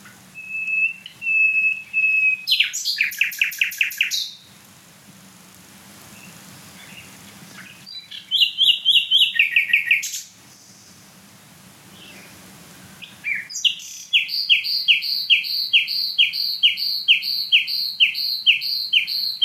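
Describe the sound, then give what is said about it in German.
A nightingale, a bird smaller than a blackbird, sings loudly in separate phrases: a long pure whistle, then rapid gurgling trills and a bubbling run of repeated notes, with short pauses between bursts. “Boah, was ist das für ein Glucksen?”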